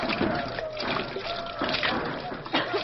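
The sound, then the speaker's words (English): Acid from batteries is poured onto zinc plates in a steady, splattering stream, trickling and splashing continuously for a few seconds with small surges in loudness. “Now pour the acid from the batteries onto the plates.”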